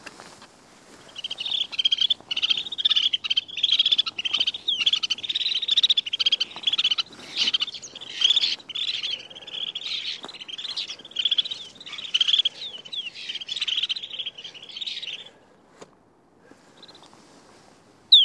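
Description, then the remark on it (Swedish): A recording of a passing flock of snow buntings calling continuously, a dense overlapping chatter of high, rippling twitters and buzzy notes lasting about fifteen seconds before fading, with no voices. “vi hörde ju dessutom en flock av snösparv som kom och drog förbi alldeles nyss. Så vi kan väl lyssna på hur den låter i inspelad form.”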